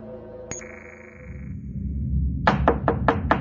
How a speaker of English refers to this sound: When Master Dam Powell knocks on her door and disturbs her from sleep, Lannery knows that something is wrong.